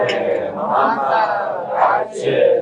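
A large crowd recites the salawat prayer (Allahumma salli ala Muhammad wa ale Muhammad) together in unison, a loud, sustained mass of voices chanting in rising and falling phrases with no single voice standing out.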